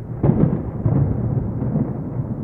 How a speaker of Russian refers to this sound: когда начиналась гроза